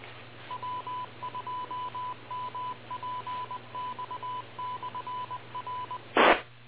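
A radio repeater's station ID beeps out in Morse code: a single steady tone in crisp dots and dashes over faint hiss, ending with a brief burst of static as the transmission cuts off.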